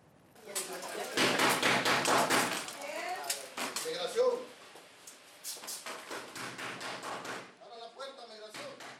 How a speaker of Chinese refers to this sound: 假装是执法人员的志愿者大声敲门，敲门声很大，听众们都静了下来，这正是讲座发起者想要的效果。